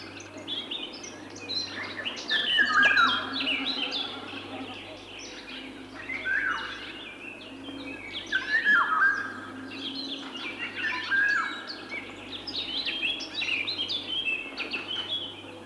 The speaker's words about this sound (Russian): А вот песня Иволги. Все ее дальние родственники живут в тропиках и очень нарядно окрашены. Наша Иволга не уступает им. Ярко-желтая с черным окраска самца очень красива. Но увидеть Иволгу трудно. Она искусно прячется в верхушках деревьев.